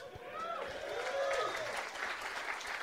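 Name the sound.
applause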